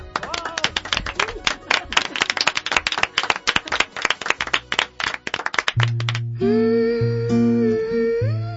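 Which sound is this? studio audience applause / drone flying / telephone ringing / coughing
studio audience applause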